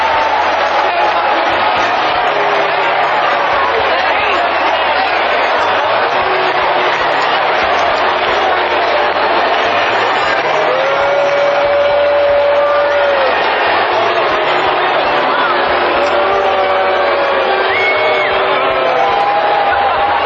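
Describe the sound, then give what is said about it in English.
A large stadium crowd in Philadelphia, reacting to a police officer tasering a Phillies fan, roars continuously, mixing low, drawn-out boos with shouts and cheers, the dense wall of voices loud and sustained throughout, with occasional whistles cutting through. “But judging from the alternating boos and cheers from the crowd, it's far from clear where the public's sentiment lies.”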